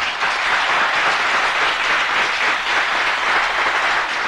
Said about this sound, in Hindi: Please ताली दो।